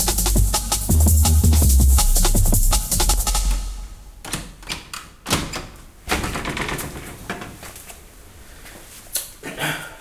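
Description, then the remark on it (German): A door is pushed shut with a low rumbling thud, followed by a series of sharp clicks and clacks as the lock is turned and the latch rattles. “Ich würde sagen, ich schließe jetzt erstmal die Tür zu, bis die sich beruhigt haben und dann sehen wir weiter.”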